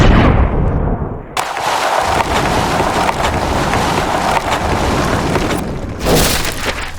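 A loud, continuous roar of explosive, gunfire-like blasts in a video game fills the whole stretch, dense and rumbling, with a sharp burst near the end as a fourth shot hits and the target explodes completely; no one speaks.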